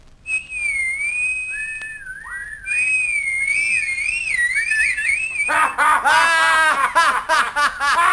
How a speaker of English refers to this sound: You'd better whistle, Jonah. That'll bring the wind. Silence! Don't you know how to whistle, Jonah? I'll show you.